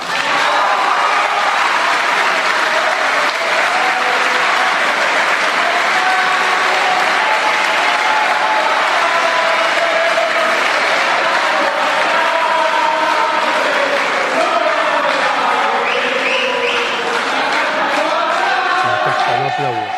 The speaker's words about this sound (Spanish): Siguen los aplausos.